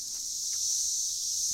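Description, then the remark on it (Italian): A steady, high-pitched buzzing drone of cicadas in the hot summer fills the air without pause, fairly soft and continuous, with faint rustling underneath and no voices. “Quanto è calda l'estate, troppo calda e fa troppo rumore. Deve finire questo frinire d'amore.”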